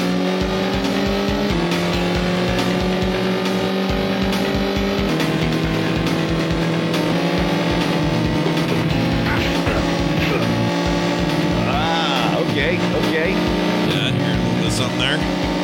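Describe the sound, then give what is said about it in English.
Video game motorbike racing from Road Rash, a 1994 Electronic Arts title: a loud, continuous engine drone that shifts pitch as it revs, with sharp punch-like hits and squealing effects breaking in during the second half. “Yeah, I was thinking racing game at first, but then I start hearing the punches.”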